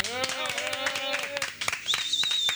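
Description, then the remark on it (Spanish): An audience claps in a quick, irregular flurry of sharp hand claps lasting a couple of seconds. A sustained voice-like tone and then a high whistling note ride over the clapping. “Señoras, señores, un aplauso”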